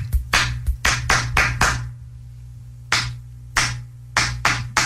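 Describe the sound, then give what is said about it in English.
A quick burst of about seven sharp hand claps in an uneven rhythm, given as a beat to match, a short pause, then five more claps matching the pattern back, fairly loud, with no talking. “I'm going to give you a beat and you match it back, okay?”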